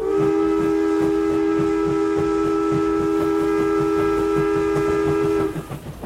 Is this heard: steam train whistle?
yes